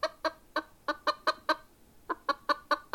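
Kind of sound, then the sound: bird, chickens clucking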